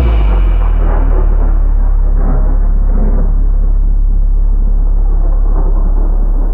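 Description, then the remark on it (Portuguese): A deep, continuous sub-bass rumble rolls on like distant thunder, loud and heavy, with a dense low-mid churn swelling over it before slowly settling. No voices. “Senti o chão tremer. Isso acontece abaixo dos 50 Hz.”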